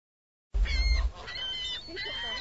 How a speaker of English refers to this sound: Where are the geese? There's one. Here's another.